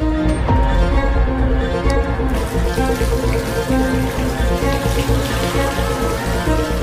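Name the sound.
water running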